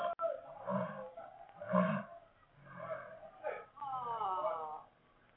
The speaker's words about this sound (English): A lion was loose from its cage. I watched him coming closer, saw him crouch to spring, and then...